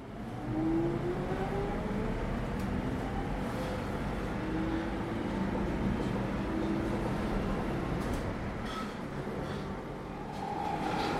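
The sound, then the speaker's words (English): A fairly empty London Underground Jubilee line train approaching Canons Park station rumbles steadily, a dense low roar with faint rising and falling whines of motors and occasional clanks, continuous and loud throughout. “So, getting off the Jubilee line at Cannon's Park, which is almost as far as you can go to the west and the north on the Jubilee line.”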